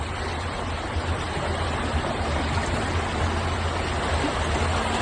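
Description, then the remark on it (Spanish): Floodwater rushes steadily down a street in Ibiza after heavy rain, a dense continuous roar of moving water that stays loud for the whole stretch, with no voices over it. “Y es que las calles de Ibiza parecían ayer ríos.”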